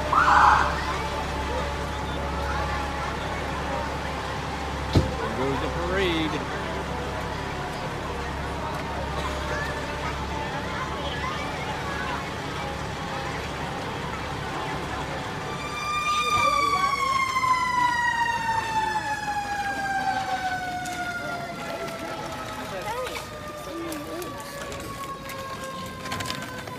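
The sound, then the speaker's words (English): A crowd gathered for a Fourth of July parade through a neighborhood murmurs amid steady hiss until a loud fire truck siren blares in, its high wail slowly winding down in pitch over the final ten seconds. “All right, so if you're like me, you enjoyed those images, seeing those fire trucks and all the people gathered to go for a little run through our neighborhood.”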